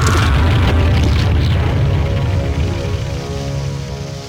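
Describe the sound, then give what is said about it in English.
A massive boulder slams down in the middle of a street, flattening a man who has fallen there, with a loud, deep booming crash, its heavy low rumble holding for several seconds before slowly fading. No voices are heard. “He falls down in the middle of the street, and the boulder flattens him.”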